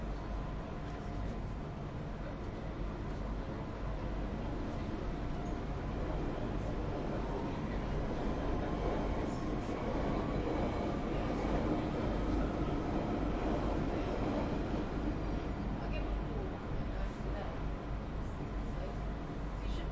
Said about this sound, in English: Train to Norfolk. We're scheduled to wait here. We're being held at a red signal. We'll be on the move shortly.